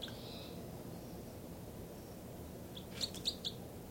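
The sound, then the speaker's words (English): Calls from two birds, identified as 305 and 306, over a steady low hiss: a soft high whistle at the start, then three sharp, bright chirps in quick succession near the end. No one speaks. “I can't really tell who's who. Both birds mainly.”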